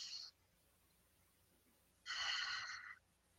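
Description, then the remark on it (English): A deep, airy breath into the belly, the belly expanding with air and then releasing it: a loud hissing rush lasting about a second, preceded by the faint tail of an earlier exhale. No one speaks. “Breathing into the belly. You can put your hand on your belly and just feel your belly expand with air and then release with air.”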